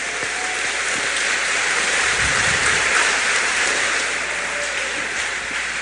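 A crowd applauds steadily in a gymnasium, dense overlapping clapping forming a continuous wash of sound that holds at a constant loud level for several seconds with no voices.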